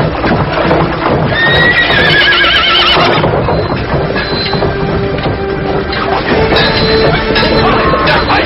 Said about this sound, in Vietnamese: Chúa Công, Chúa Công, phi ngựa về phía sau đi. Sau đó phi ngựa chạy thẳng qua cầu.